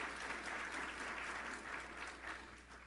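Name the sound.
audience applause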